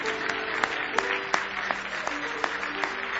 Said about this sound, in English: Oh, give the Lord a good hand clap of praise.